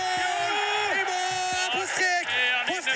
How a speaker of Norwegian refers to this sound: Det jubles med ball i mål.